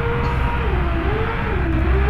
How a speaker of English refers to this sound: To find out, Patricelli is introducing recordings of gas rigs and trucks into her research. She wants to see if sage grouse can adapt to the noise.